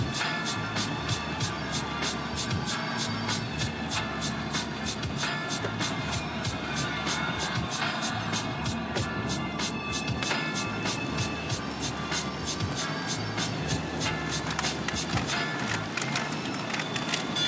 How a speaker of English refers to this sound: Here's a little traffic.